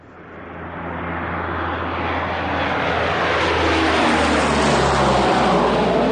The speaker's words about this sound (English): Just then, another C-54 roared over his head, and an idea formed in his mind.